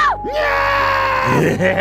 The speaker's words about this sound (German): Hier sind gerade Gäste. Gucken wir nicht auf uns. Schreien wir.